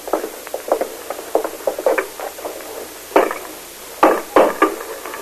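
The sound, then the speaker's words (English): A chisel chipping away in a quick series of light, irregular taps, then three heavier, sharper strikes, with no voices over them. “Right, Spider, get a chisel.”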